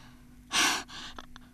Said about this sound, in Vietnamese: Ferruccio hổn hển hỏi.